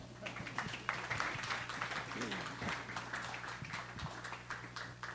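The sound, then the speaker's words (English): An audience applauds as a panel is invited up to take their seats, a steady, dense patter of many hands clapping that carries on for several seconds, with a low hum and some murmur of voices underneath. “And your job as an audience is to clap hands for them.”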